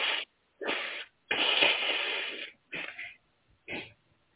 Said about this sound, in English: I'm going to blow my nose in the middle of this, but I'm ready.